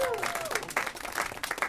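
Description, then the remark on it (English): An audience breaks into steady, dense applause for Kurt Braunohler, a crackling wash of many hands clapping, with a brief falling whoop or cheer rising above it at the start. “Let's hear it for Kurt Braunohler, everybody.”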